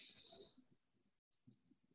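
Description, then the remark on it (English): An airy breath drawn in through the nose, loud and hissy for under a second before fading, followed by quiet low rustling and faint soft sounds with no speech. “And when our lungs feel empty, we breathe in through our nose”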